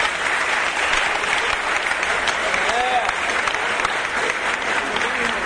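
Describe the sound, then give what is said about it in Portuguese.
A crowd claps steadily and loudly for a poet called up to recite poetry, a dense wash of many hands with faint voices and a brief cheer rising through the applause. “Vem aqui no meio, receba uma salva de palmas e fale uma poesia.”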